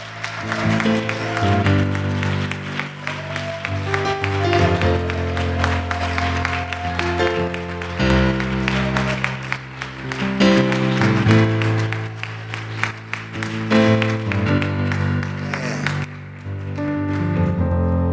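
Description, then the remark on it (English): An audience in church claps steadily in appreciation of their pastor and his wife and family, the dense applause continuing for the whole stretch over sustained organ-like music with warm, held chords. “And if you appreciate your pastor and his wife and family, I wonder if you could just give them a hand clap of appreciation.”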